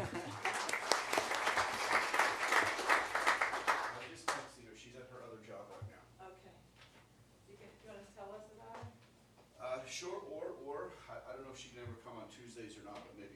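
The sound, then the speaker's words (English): Audience applause at a Davis County service recognition for an attorney's office employee with five years of service: a dense burst of many hands clapping for about four seconds, then fading as people begin talking over a low steady hum. “Let's clap for her.”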